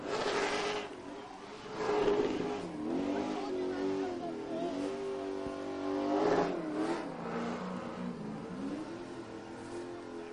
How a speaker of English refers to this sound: We've got a burnout going on in behind us as … celebrates his 2019 championship. Well, as he lights it up and gets back into victory lane